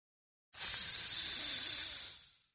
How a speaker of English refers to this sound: Wow. Sizzle.